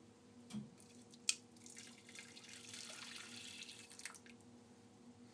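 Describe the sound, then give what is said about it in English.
Water pours into a pan in a steady, hissing stream for about three seconds, preceded by a soft thump and a sharp metallic clink. No one speaks. “Also just trying to work out much water I have in here.”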